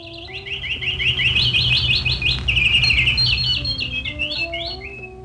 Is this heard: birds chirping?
yes